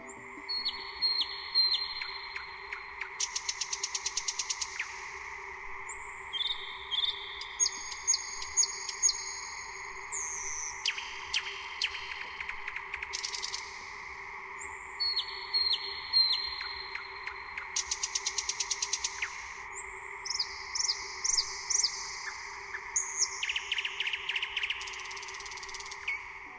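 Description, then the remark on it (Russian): Nightingales sing in May in the Nizhny Novgorod region, continuously in bright, varied phrases: rapid repeated chirps, rising whistles and clicking trills that come in bursts with short pauses, over a steady low background hum. “В мае месяце, когда она в начале мая прилетает в Нижегородскую область, соловьи начинают петь, и мы с вами их слышим.”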